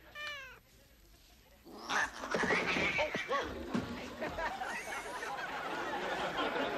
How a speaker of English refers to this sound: I was just mauled by a vicious stray cat. I don't think Mr. Buttons likes you